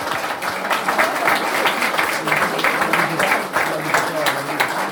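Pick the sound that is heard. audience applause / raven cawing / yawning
audience applause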